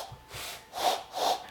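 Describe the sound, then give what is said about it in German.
A person imitates an owl with diarrhea, but it comes out as breathy, sputtering blows with no clear hoot: a couple of faint puffs, then two louder rasping bursts. “Eine Eule, wenn die Durchfall hat, so hört sich die vielleicht an.”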